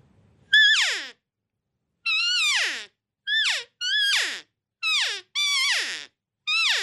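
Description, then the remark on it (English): A series of seven high, nasal cow calls blown on a lathe-turned game call with a band and an internal soundboard, each a short mewing note that bends downward at the end, with brief pauses between them and no talking. “And you can get some really nice, sweet cow sounds with this. And I'll just demonstrate that real quick.”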